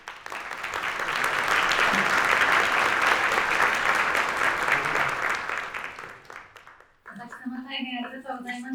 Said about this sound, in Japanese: 会場の皆様、先ほどまずに今一度大きな拍手をお願いいたします。